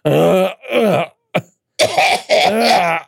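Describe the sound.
A voice imitates a smoker's hacking cough: a loud run of rough, groaning cough bursts with a brief gap midway, sounding harsh and wet rather than sharp.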